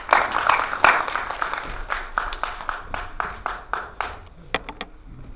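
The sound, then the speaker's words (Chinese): An audience at a talk in the city library applauds to welcome the speaker, a dense burst of clapping at first that gradually thins out into scattered, individual claps before stopping. No one speaks. “下面让我们用热烈的掌声有请向老师。”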